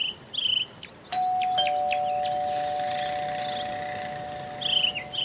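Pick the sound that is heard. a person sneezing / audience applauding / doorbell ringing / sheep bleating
doorbell ringing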